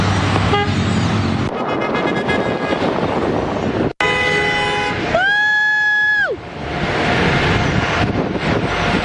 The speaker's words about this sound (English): So here they are, just standing on the side of the road, a busy intersection, people honking at their honk for Trump sign.